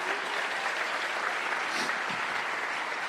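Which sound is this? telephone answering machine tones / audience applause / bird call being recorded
audience applause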